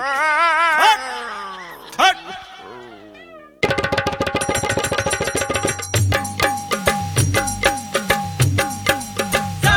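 A dog yelps and yips in a few high, wavering cries, fairly loud, before a burst of busy rhythmic music with sharp repeated beats takes over.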